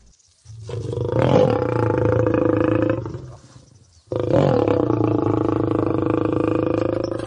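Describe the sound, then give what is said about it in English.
A lion lets out two long, deep, rumbling roars, the first swelling and fading, the second starting abruptly after a short pause and holding steady, with no talking. “They do not growl like a lion.”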